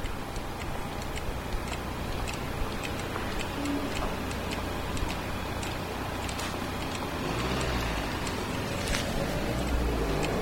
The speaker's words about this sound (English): So what this clicking noise means is that the light is red for pedestrians. It's a don't walk signal. This is for deaf... Wait, this isn't for deaf people. This is for blind people.